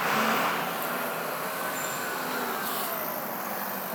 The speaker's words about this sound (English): Cars, bus, there was a bus or something.